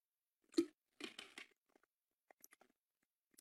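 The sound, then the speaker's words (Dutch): Someone takes a sip of water: a sharp tap and brief rustling clatter of a glass, followed by a few faint wet clicks and swallows in near-silence. “Neem ik eerst even een slokje water.”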